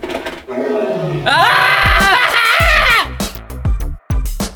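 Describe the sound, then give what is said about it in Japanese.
A person loudly imitates a bear roaring as a joke way to end a radio show: one long, rumbling growl that rises and sustains for about two seconds, followed by shorter gruff grunts and breathy snorts. “こんなラジオの終わり方は嫌だ。 クマが来る。”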